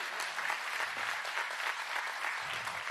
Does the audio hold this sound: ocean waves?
no